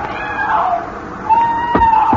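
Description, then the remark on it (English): A woman out in the surf off a beach gives a high, drawn-out cry over a steady wash of surf, wavering in pitch and growing stronger in its second half before breaking off abruptly. “Then you hear it, the cry of a woman out in the surf.”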